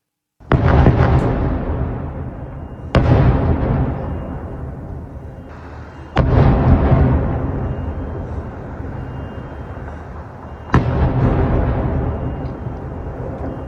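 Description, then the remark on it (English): Four heavy explosions from missile strikes in Beirut in the morning boom out at irregular intervals, each with a sharp onset followed by a long, rolling rumble that fills the gaps. No voices are heard. “Missiles are in the sky and loud explosions can be heard this morning in Beirut.”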